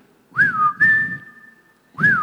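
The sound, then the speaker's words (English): A person whistles a family signal call: a rising note held steadily, then repeated after a short pause, loud with no talking. “That's our family whistle.”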